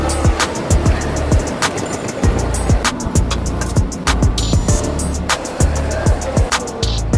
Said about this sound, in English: So here we are at the Port Authority bus terminal, the cheapest destination for any traveler trying to get to New York City.